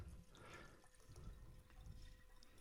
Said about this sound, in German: So, ich führe euch jetzt mal vor, wie ein reines Herz aussieht. Ich kippe einfach ganz super Wasser hier rein.